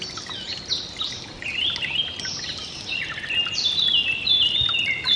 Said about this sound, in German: Ich höre das Singen der Vögel.